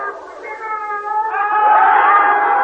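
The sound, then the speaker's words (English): A cat named Tom, held in a hand, gives a long, drawn-out meow that rises and swells in the second half, loud, with a slightly echoing quality and no talking. “The great Tom Thomas, the aviator, the cold-blooded publicity-hating crusader, the unseen mystery marvel, is none other than this cat in my hand.”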